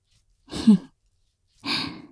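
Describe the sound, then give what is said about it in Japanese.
Two soft breathy exhales blown right against an ear, separated by a brief pause, with no talking. “耳に吐息かけられるのも弱いんだ。”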